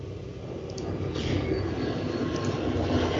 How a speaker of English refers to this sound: The train!